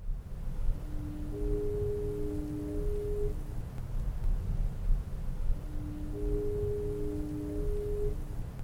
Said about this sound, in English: After the ship's foghorn, you heard an excerpt from a National Weather Service dense fog advisory, and then the foghorn at the U.S. Route 50 Chesapeake Bay Bridge in Maryland.